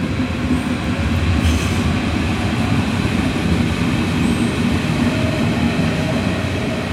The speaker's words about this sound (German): Wenn ich hier so in die S-Bahn reingucke, ist um 6.30 Uhr schon ganz schön was los. Und schön viele Menschen schon drin.